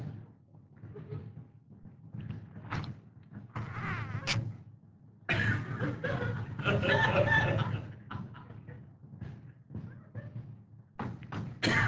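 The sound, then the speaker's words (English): A person imitates a seagull with loud, squawking cries in several bursts separated by short pauses, the longest and most intense stretch near the middle. “Have I done my seagull for you guys? Oh, I got to do my seagull for you.”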